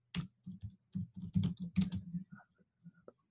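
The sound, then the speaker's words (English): Rapid typing on a computer keyboard, entering a product title for organic lemon essential oil, a dense run of clicks and taps that slows and tapers off near the end, with no one speaking. “Typing way too fast here.”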